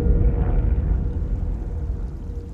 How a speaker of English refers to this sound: But then, there's a loud revving of the engine, and the sound of the plane recedes one final time.